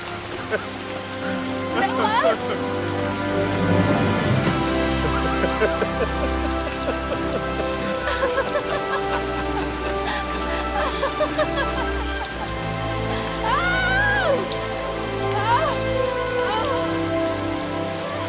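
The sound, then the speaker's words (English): Heavy rain pours down steadily for the whole stretch, a dense, hissing wash, while a couple call out and laugh manically over it. “a romantic boat ride, and laughing manically in the rain together.”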